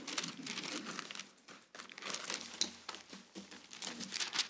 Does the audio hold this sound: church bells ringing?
no